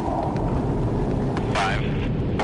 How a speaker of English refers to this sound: This time, the verdicts will be launched from three F-18 jet fighters, just as they would on a real battlefield. There they are. There they are.